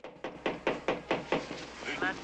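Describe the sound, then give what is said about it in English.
A police officer knocks on a chalet door, a quick, steady run of about seven firm, evenly spaced knocks, fading slightly at the end as a faint voice briefly sounds. “A cop knocks on Buck and Blanche's door”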